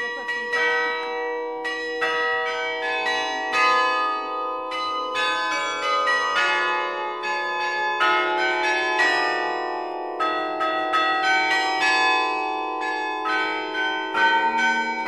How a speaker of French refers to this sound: Identité sonore de la Bastide, le carillon invite tout un chacun à pénétrer dans la collégiale.